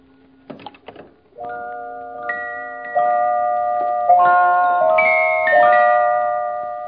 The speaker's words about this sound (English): And so, of course, it's wedding bells. They sound very pretty, don't they, my dear?